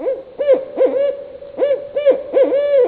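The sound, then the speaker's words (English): A barred owl hoots in a rhythmic series of rising-and-falling calls, heard on national parkland in Marin County. The calls are clear, with a steady cadence and no voices present. “look for the owl that makes that call, the barred owl”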